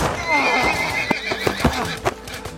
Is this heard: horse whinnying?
yes